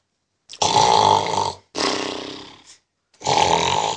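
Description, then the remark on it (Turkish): A voice imitates the loud snoring of a sleeping person with three rough, rasping breaths, each about a second long with short pauses between them, the middle one fading out. “Bak horlama burada.”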